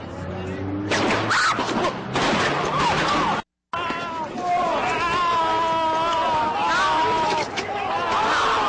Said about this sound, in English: The shooting footage, this is around midnight, just a few hours ago. Last time on Thursday. Hey, go to it so they can see it. You're about to hear gunshots go off.